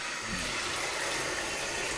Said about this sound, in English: All right, now pouring in some bubble bath. Now let me just turn the faucet back on here.